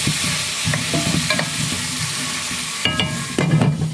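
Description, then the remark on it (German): Food with sweet potatoes clatters and rumbles in a frying pan as it is stirred, with a steady sizzling hiss underneath and bursts of scraping knocks, louder toward the end; no talking. “So, wenn ihr das so poltern hört, das ist das Zeug.”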